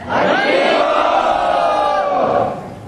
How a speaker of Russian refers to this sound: Еще раз, те, кто подтверждает это, громко крикните «Хари Бол».